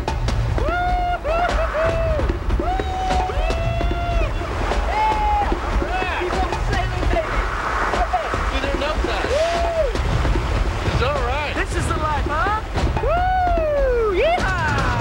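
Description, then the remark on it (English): A catamaran sails through open water, with a constant loud rush of wind and waves washing past the hull. High, wavering tonal calls rise and fall over the noise. “I love sailing because of the sense of freedom of being out on the open water. Once you get going on a catamaran, it's a feeling of like flying.”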